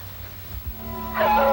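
A coyote howls in the darkness at night, a long wavering tonal cry that swells and rises toward the end over a low background rumble, heard from the main room of a station.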